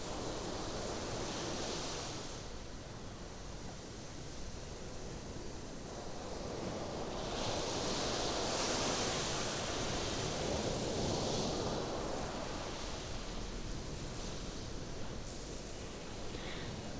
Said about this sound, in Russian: Когда лодка исчезла, вы продолжайте наблюдать за чистым морем, за шумом волн, бьющихся о берег, и продолжаете это до тех пор, пока не почувствуете себя удовлетворенным.